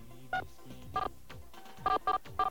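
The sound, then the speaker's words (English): Five short touch-tone beeps as the main phone number for NBC is dialed into an automated phone menu, each a bright dual-pitched tone, spaced unevenly with the last three in quick succession, over a faint low hum. “Now, we decided to explore a little bit at this point, and we entered the phone number for NBC, the main number.”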